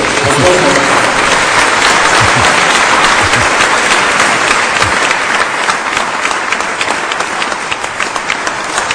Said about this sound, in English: so let's give her a big round of applause for that service.